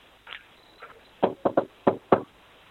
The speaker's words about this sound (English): Hang on, I'll just knock on his door.